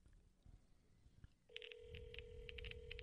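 A phone call rings out over a speakerphone: a steady electronic ringback tone starts partway in and holds, with brief higher chirps pulsing above it, fairly loud against a quiet background.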